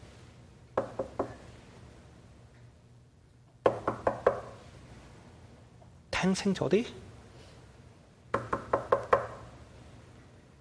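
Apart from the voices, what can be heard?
knocking on a door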